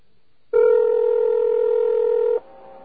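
A single telephone ringing tone sounds once during a call to a New York Telephone business office, a steady mid-pitched buzzy hum held for about two seconds before cutting off, with only faint line hiss before and after and no voices.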